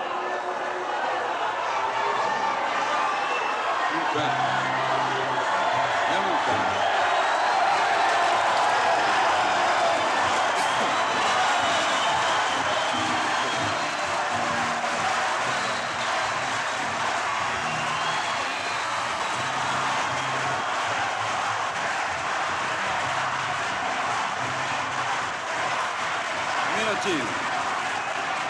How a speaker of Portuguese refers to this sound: Eu quero pedir aos que aplaudem e aos que vaiam um pouco de lucidez nesse momento para poder entender o que eu vou cantar.